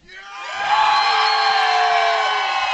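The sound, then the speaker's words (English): A large crowd cheers and screams loudly for the Kansas City Chiefs, the roar swelling up within the first second and holding steady, with high-pitched shouts and whoops layered throughout. “we get a chance to cheer again”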